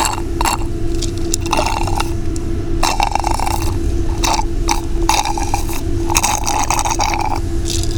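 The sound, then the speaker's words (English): Wet gulping and swallowing sounds repeat in quick bursts, with glassy clinks and slurps over a steady low hum, as someone gulps down half a glass of tea without talking. “Some bonus Foley for you out there, because I still really got half a glass of tea.”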